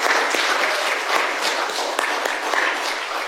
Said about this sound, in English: Well, thank you for joining with us in ministry and the family of faith here at Rose Hill. I think we owe them a round of applause for joining with us.